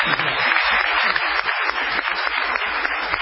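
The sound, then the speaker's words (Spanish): A crowd claps steadily for a few seconds to welcome Pablo Fábregas as the new member of La Venganza, a dense, even wash of many hands with no pauses and no voices standing out. “Vamos a saludarlo con un aplauso.”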